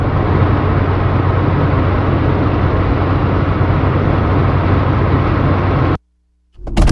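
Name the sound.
car driving in traffic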